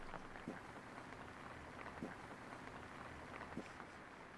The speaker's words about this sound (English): So it's still raining there, huh?